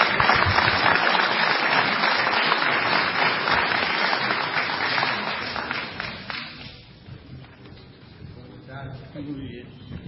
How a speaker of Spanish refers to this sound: Con un aplauso grande.